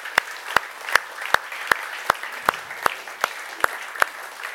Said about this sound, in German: Und ich glaube, gerade für diese 3 Bereiche dürfen wir auch einmal einen Applaus geben.